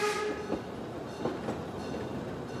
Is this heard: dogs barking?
no